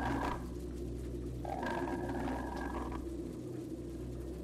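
A drawn-out, snarling growl like a tiger's rises for a second or two over a constant low rumble, sounding faint, with no voices present.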